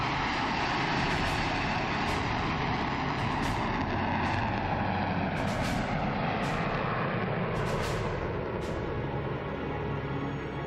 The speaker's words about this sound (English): Every aviation company in Yellowknife, with a plane and pilot to spare, pays its respects. The grand finale, a Boeing 737, just like the downed plane.